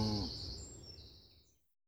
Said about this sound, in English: The cows are drinking. Wow! Aren't they big when you're close to them?